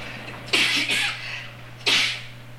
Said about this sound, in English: Then a bunch of them started sneezing.